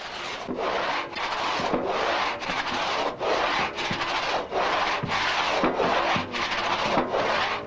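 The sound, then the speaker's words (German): A hand saw starting a cut in wood, worked very gently until the blade gains guidance in the cut, rasps steadily in short, even back-and-forth strokes, about a dozen in quick succession, fairly loud, with no voices. “Bis die Säge im Schnitt Führung gewinnt, muss sie sehr behutsam betätigt werden.”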